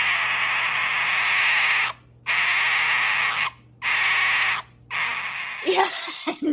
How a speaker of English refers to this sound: You very kindly sent us some video, and I think you would agree with me that the sound that the foxes make does not necessarily chime with what people would think of as a therapeutic sound.